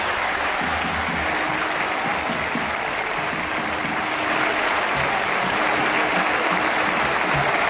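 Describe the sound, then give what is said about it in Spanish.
A stadium crowd rises in a standing ovation, applauding continuously in a dense, steady roar of clapping that swells slightly louder toward the end, with no break or talking, in the 9th minute of an Athletic Bilbao match, in tribute to Williams. “Bueno, en el minuto 9, de hecho, todo el estadio se ha puesto en pie y ha hecho esto, aplaudir así a Williams.”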